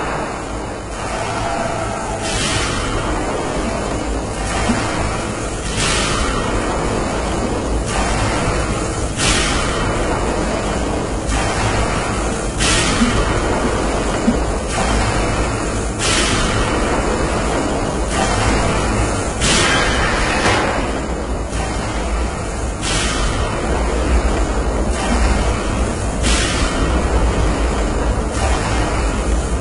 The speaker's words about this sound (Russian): Ладно, пойду выключать чайник, знаете.